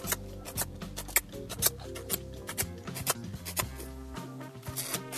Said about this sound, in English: Tracy's miniature horse Benny kind of sounds like a typewriter.